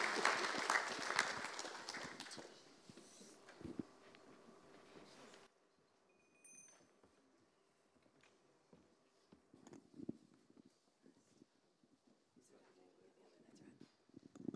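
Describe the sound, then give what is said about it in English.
An audience breaks into a loud, dense round of applause that thins out and stops after about five seconds, leaving faint voices and scattered small clatters. “So please give them all a round of applause”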